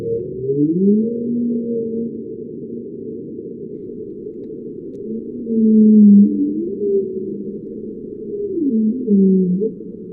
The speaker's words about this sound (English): Shell is using acoustic monitoring to better understand how whales respond to noise. This is a sample of the whale calls they've recorded.